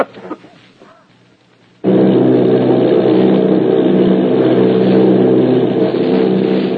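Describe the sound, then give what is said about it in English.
After a quiet, murmuring start, a loud, steady engine drone kicks in abruptly and holds without pause, a dense low roar of Army bombing plane engines, plane V-843 off Bayonne, New Jersey, in a flight of eight bombers. “Army bombing plane V-843 off Bayonne, New Jersey.”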